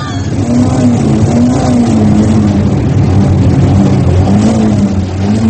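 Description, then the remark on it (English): A fuel-injected car's engine runs loudly, its steady drone wavering slightly in pitch as it revs up and eases off, with no one speaking. “It was the first one we found with the ignition key in it. It's fuel injected, you know.”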